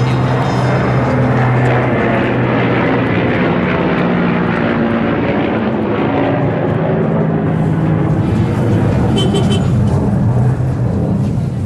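A loud, steady airplane engine roar passes overhead, layered over a dense, chaotic wash of street traffic noise on the grand bazaar avenue in Kabul, Afghanistan, that stays constant throughout, with faint voices mixed into the din.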